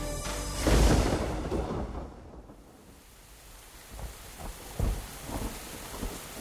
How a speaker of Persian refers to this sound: تمام دوشنبه یک بند باران بارید، درست مثل روز یک شنبه، اما به نظر می رسید ریزش باران فرق کرده است، چون چیزی متفاوت و تلخ در قلبم رخ می داد.